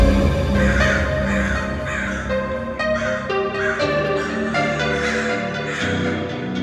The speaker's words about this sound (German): Krähen kreischen und umkreisen dein von Pest besetztes Haus.